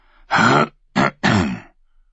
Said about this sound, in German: Aeron hatte die Tür fast erreicht, da räusperte sich der Meister.